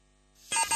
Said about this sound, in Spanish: Veo que te has puesto alarma.